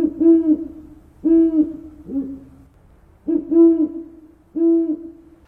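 An owl hoots five times in a steady, unhurried rhythm, each call a clear, resonant note with a slight rise and fall, alone with no talking.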